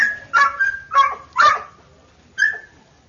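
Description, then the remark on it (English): A dog lets out a quick series of high, strained barks mixed with whiny yelps, four bursts followed by a pause and one last whimpering cry, fairly loud with no talking. “All of it, well, one dog's seen the other dog and the other. Mad that the owner won't let them go meet.”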